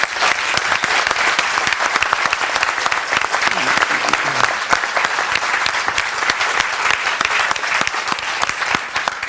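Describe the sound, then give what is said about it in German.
An audience at the DAC 2023 claps steadily for several seconds after a live interview, a dense, even patter of many hands at a loud, sustained level with no voices rising above it. “Einen Applaus für dich.”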